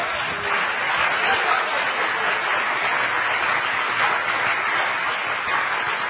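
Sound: audience clapping hands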